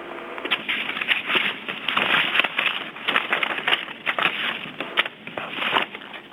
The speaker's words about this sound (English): There's a lot of shuffling or typing or something going on in the background. If it's possible to mute your line, whoever's doing that, that would be very helpful.